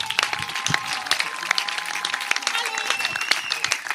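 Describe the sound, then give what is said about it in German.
An audience claps steadily for Dialektstube live, a dense, sustained patter of many hands with a few sharper individual claps standing out, with a faint murmur of voices in the mix. “Dann Applaus, ihr Lieben, für unsere Dialektstube live.”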